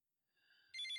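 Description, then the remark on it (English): A telephone rings with an electronic ringtone: a thin tone fades in, then a bright, warbling trill bursts in much louder. No one speaks. “Oh my god, the phone!”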